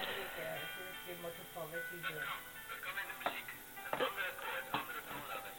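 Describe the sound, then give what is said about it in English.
Piano chords ring out one after another, a few sustained harmonies followed by sharper struck chords near the end, played at moderate volume and slightly muffled, as if heard through a small speaker. “Can you hear the piano?”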